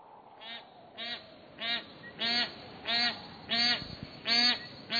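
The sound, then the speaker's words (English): A bar-headed goose, a gray-bodied, 5-pound goose with a zebra-striped head, honks repeatedly, about eight nasal calls in a steady, evenly spaced rhythm that grows slightly louder toward the end, with no talking. “How do these gray-bodied, 5-pound geese with zebra-striped heads breathe at such high altitudes?”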